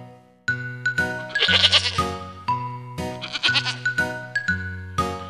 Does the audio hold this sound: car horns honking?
no